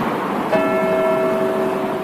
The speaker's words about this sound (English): Just one of the many signs of respect being marked in Liverpool today as those inquests come in. People listening to these bells ring out, knowing that they mean one thing: justice has been served for the 96.